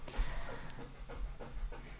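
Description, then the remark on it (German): A dog pants steadily with quick rhythmic breaths and a few faint squeaky whines while being trimmed, its dead fur pulled out, as done with rough-haired dog breeds; no one speaking. “Quälst du unseren Hund? Ich trimme.”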